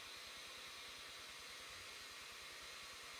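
A steady, airy whirring with a fast, even low pulse from a UFO-shaped object spinning on a surface. It stays fairly quiet and constant throughout, with no voices.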